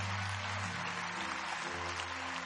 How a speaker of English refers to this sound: Come on, give him a hand clap as they come from all parts of this building.